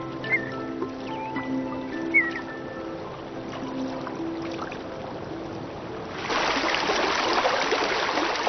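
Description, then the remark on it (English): Soft sustained musical tones with a couple of bird chirps give way, in the last two seconds, to the loud, steady rush of a snowmelt stream in Yellowstone, swollen by cascading melt of six months of snow and ice. “cascading snowmelt swells the streams and rivers.”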